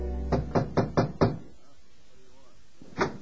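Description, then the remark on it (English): Five firm knocks on a room door at the Y in Woodhaven in a quick, even rhythm, loud, followed by a moment of near silence before a voice begins at the very end. “My heart was filled with conflicting emotion as I knocked on the door.”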